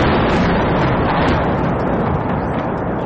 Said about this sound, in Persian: صدای برخورد یک پهپاد انتحاری روسیه به یک ساختمان مسکونی در پایتخت اوکراین. حمله هایی که تلفات انسانی و میزان تخریب تأسیسات زیربنایی را در کیف و دیگر شهرهای اوکراین افزایش داده. پهپادهایی که به گفته منابع غربی از نوع شاهد 136 ساخت ایران هستند.